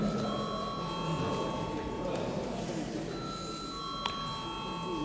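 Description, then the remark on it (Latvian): A parliamentary chamber bell, rung at the chair's request as deputies are asked to register with voting cards, rings steadily throughout, a sustained, even tone over a low murmur of voices chattering in the background. “Lūdzu zvanu.”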